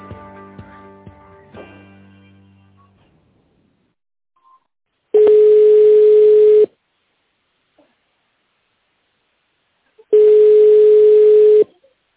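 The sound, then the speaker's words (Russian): A telephone ringback tone while waiting for a secretary to answer at the international auditing and consulting network Finexpertiza: two long, steady, mid-pitched buzzing tones about five seconds apart with silence between, following a few fading musical notes at the start. “Если вы знаете добавочный номер сотрудника, наберите его в тональном режиме, либо дождитесь ответа секретаря.”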